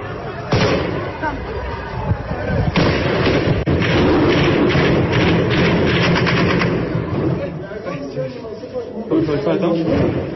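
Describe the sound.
Rapid bursts of Taliban gunfire crackle in quick clusters over a loud, clamorous crowd of shouting protesters on a Tuesday, the shots sharp, continuing on and off throughout.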